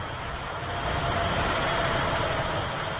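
A steady, dense roar of road traffic with deep low rumble, as trams and vehicles pass on the two busy roads beside the Malostrana Cemetery in the industrial district of Smíchov; no one speaks.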